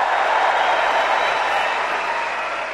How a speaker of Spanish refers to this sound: Ojo que va a hablar el campeón de Wimbledon. Mira, mira qué ovación.